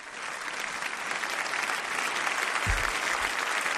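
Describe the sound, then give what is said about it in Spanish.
Sustained, dense applause from a large crowd in the French National Assembly, an ovation for Zelensky, a steady roar of clapping hands that holds at full volume throughout, with a couple of low thumps near the end. “Zelensky, además, siempre ha sido recibido en los diferentes parlamentos internacionales con una gran ovación.”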